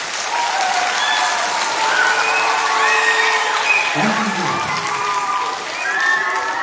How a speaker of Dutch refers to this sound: Ik denk dat we een applaus vandaag hebben.